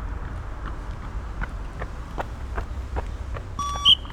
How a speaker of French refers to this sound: Point de départ, station de bus, Pintre-Roux, La Serviane, en provenance de la station de métro, La Rose. Vous entendez les bips au fond ?